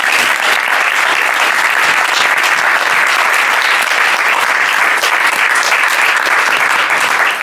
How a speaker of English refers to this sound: We all thank you, Prabhupada, but please can we have once again a round of applause for Maharaj.